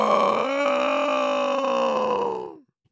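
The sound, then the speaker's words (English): A huge Allosaurus roar sounding across a city: one loud, sustained, throaty bellow with a rich harmonic growl, held steady for over two seconds before its pitch sags and it cuts off. “Thomas gave his mum a big hug and dashed out behind Jack as a huge roar sounded across the city.”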